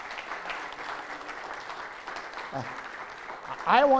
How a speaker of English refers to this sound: Would you please give these veterans a round of applause?